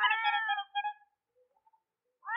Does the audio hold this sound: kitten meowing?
yes